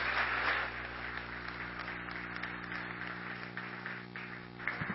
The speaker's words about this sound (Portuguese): Encerro minhas palavras pedindo uma salva de palmas para o nosso presidente